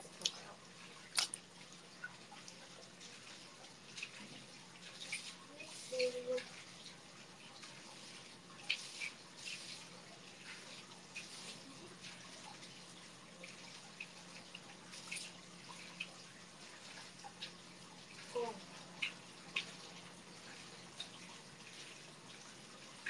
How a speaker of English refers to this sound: It's so weird, the water is so cold. Maybe I'll use the water mixer. There's this, like, ladle thing for mixing the water. You like the water sounds?